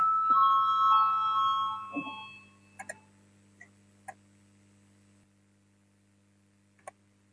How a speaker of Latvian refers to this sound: Lūdzu zvanu, balsosim par 8. Finanšu ministra Ērkunga priekšlikumu.